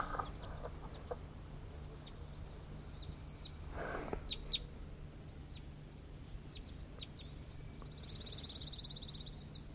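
birds

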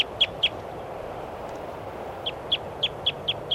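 bird calling

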